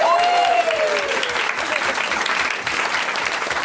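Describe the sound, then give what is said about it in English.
A studio audience breaks into loud, steady applause for a guest introduced in the Pedant's Corner segment, dense clapping evenly for a few seconds, with a brief whoop or cheer rising above it near the start. “Keeping a voracious eye on our veracity in Pedant's Corner, please applaud for”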